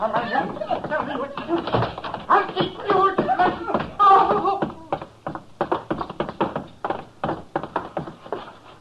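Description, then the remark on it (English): Muffled cries and grunting give way to a rapid, irregular run of sharp thuds and smacks, fairly loud, as a man beats his wife. “He's beating her.”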